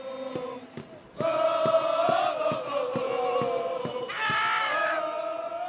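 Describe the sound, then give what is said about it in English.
Fans at a Milwaukee Bucks basketball game chant loudly in unison near the end of the third quarter as Bogut and the Bucks try to make a comeback, voices rising together over steady rhythmic clapping or stomping, with the chant swelling even louder near the end. “Their organized chanting reaches a crescendo near the end of the third quarter as Bogut and the Bucks try to make a comeback.”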